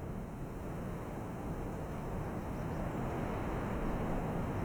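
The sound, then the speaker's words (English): Strong wind blasts steadily outdoors, a constant loud roar with heavy low rumbling buffeting, with no pauses and no voices. “It's very, very windy, but is that normal?”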